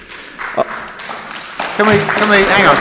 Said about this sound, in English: Can we not clap at every little point, please, in the public gallery? Because it's really disrupting. Hang on, because it's disrupting the thought processes of people who are trying to listen to this and make decisions on it.